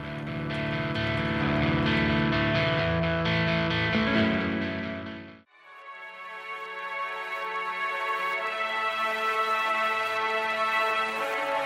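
Loud, dense distorted guitar rock plays for about five seconds, cuts out abruptly, then resumes with a brighter, sustained guitar-driven passage carrying on steadily to the end. No one speaks.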